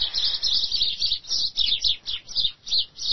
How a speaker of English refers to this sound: The birds are getting excited.